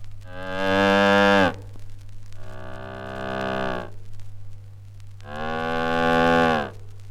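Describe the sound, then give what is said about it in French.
An instrument imitates a cow mooing with three long, loud, bellowing calls separated by short pauses, the middle one softer, over a steady low hum and with no talking. “La vache.”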